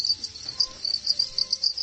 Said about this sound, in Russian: В середине мая на склоне горы Машук запели сверчки, но не местные, а заграничные. Правда, иностранцы они лишь по происхождению, а разводит их пятигорчанин, кандидат биологических наук